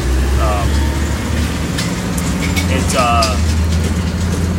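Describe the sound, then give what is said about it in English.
A large tractor rumbles by in Lancaster County, its heavy diesel engine droning loudly and steadily throughout, with a few faint, brief vocal sounds poking through the noise. “Yeah, sorry for the tractor. Big-ass fucking tractor.”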